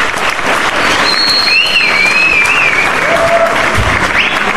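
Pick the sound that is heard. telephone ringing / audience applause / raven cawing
audience applause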